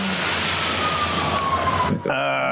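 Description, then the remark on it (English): A police siren in a video game wails with a slowly falling pitch over loud, rushing engine noise, then shifts abruptly to a steadier, buzzing tone near the end. “I gotta deal with the cops.”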